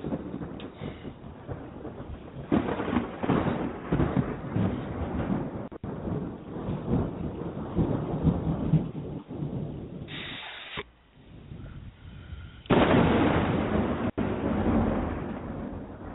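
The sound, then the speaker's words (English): Deep thunder rumbles on and on with no talking, swelling into louder rolling surges near the start and again near the end, with a brief lull between. “You know, Judge, when you can make thunder come out like that, then I'll believe you have a bigger ego than me.”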